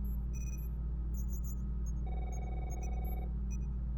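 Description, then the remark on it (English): A muffled telephone, not the bridge phone, rings in a single sustained burst beneath a constant low rumbling hum, with faint high electronic chirps scattered throughout. “Do I hear a telephone? That's not the bridge phone. Where is it? It is sounding muffled.”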